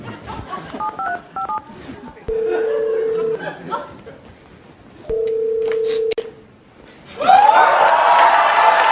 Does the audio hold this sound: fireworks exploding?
no